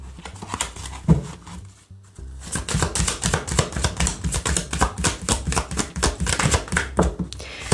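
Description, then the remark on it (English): A deck of cards being shuffled, with a brief crisp riffle, a short pause, then a long stretch of rapid, rhythmic papery clicks and flutters at steady loudness, with no voices. “Do one more shuffle, see what happens here.”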